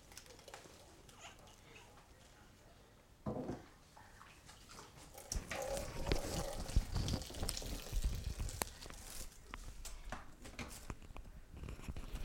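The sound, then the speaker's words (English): Water pours and splashes steadily for several seconds, growing louder partway through and continuing as a rushing trickle with faint background noise. “Putting on some water to keep it nice and fresh.”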